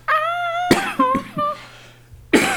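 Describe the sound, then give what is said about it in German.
A loud coughing fit: a strained voiced groan breaks into several harsh, rapid coughs, then after a brief pause one more forceful cough bursts out. “Oh, jetzt habe ich auch einen Hustenanfall.”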